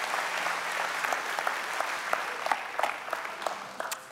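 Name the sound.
round of applause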